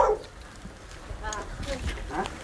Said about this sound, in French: C'est votre chien, là, qu'on entend? Non, le chien du fils, c'est pour moi.